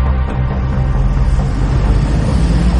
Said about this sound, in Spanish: Estamos esperando que pasen los autos. Y enfrente. La calle es una locura.